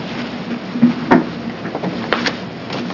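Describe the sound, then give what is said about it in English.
A chair is dragged up for people about to testify at a hearing, scraping and bumping across a hard floor with a low grinding drag and a few sharp knocks and clatters spread over a few seconds. No one speaks. “And you can drag one of those other chairs up there.”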